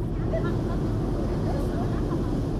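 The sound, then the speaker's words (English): A boat provided by the Suez Canal Authority drones in a steady, fairly loud low rumble as it meanders by construction sites on the new Suez Canal in Egypt on a Sunday, unbroken throughout, with faint indistinct voices mixed into the noise. “From a boat meandering by construction sites on the new canal Sunday, giant waterspouts are seen slowly raising the level of the waterway.”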